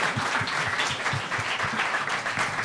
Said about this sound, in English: We're not done yet, but yes, applause is due.